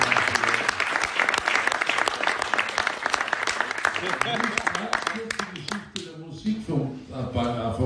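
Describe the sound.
A crowd breaks into loud, sustained applause with dense overlapping claps, then thins out near the end as a few cheers and voices come through.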